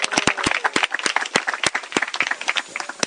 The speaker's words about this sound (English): Before we begin, we'd like to welcome the devotees from Kazakhstan. В самом начале мы хотели поприветствовать преданных из Казахстана. Please give them your welcome. Applause would be appropriate. Поаплодируйте все, пожалуйста.